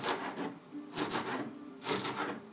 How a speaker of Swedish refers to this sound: Och då tar vi fram vår vän dillen igen. Här är dill. Det måste ju ner lite dill i såsen också. Så, ja, bara hacka dill. Lite fint.